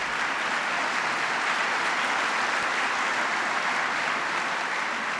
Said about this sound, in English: Now, even that's worth applause.